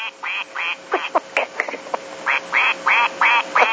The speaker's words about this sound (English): This is from my dog, okay? He's back there and he chews his toy at this one moment when I talk about how serious it is. And it sounds like...